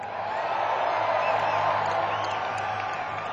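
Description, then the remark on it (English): A live audience cheers steadily, a dense roar of many voices holding at an even level throughout, with occasional high whoops rising above the noise. “What a crowd.”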